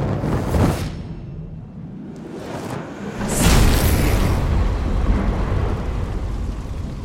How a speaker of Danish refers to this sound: Du ser en eksplosion af ild brager ud til siden.